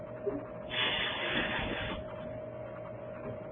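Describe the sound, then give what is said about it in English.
A grogger ratchet noisemaker, sounded whenever the name Hammond is said, gives a dense, buzzing ratchet rattle for just over a second, blending into a broad hiss from people hissing, then fades back to a low steady hum. “So anytime we would say the word Hammond, they would make this noise with a ratchet, then they hiss.”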